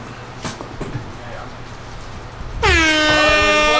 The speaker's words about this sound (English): Air horn? Oh, air horn.